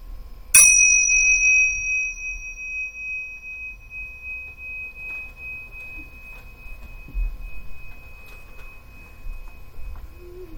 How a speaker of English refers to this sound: Let the sound of the bell bring you back into the room and out of meditation.